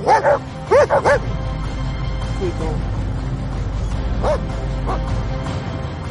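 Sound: dogs barking and whimpering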